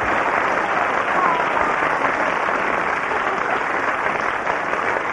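Steady audience applause, a dense wash of many hands clapping at once, sustained at an even, fairly loud level for about five seconds with no voices standing out.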